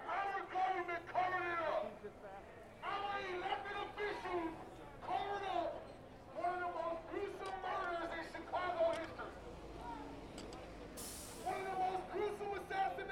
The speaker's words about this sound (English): A sizable crowd of protesters stood in the plaza calling for Van Dyke to be brought up on federal charges.